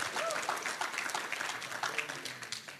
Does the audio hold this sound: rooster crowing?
no